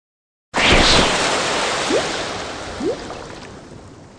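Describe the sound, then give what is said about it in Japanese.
A steady rush of flowing river water, broad and continuous, starting abruptly and holding loud, with a couple of brief rising splashes or gurgles within the flow. “水の音、祭の河原だろうか。”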